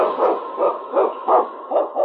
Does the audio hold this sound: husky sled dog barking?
yes